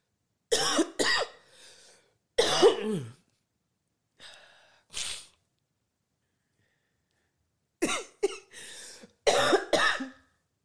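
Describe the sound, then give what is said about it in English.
A harsh coughing fit: bursts of several rapid coughs in clusters with short quiet gaps and a raspy breath between, no talking. “As I have a coughing fit while on mute, but you weren't supposed to stop then.”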